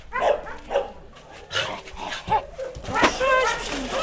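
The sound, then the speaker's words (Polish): Several dogs at an animal shelter bark in short, repeated bursts mixed with high-pitched whimpering and whining, moderately loud, with a busy, echoing background of overlapping commotion. “Jest tu wiele psów, które są naprawdę dotknięte strasznie przez ludzi i aż naprawdę serce boli, nie?”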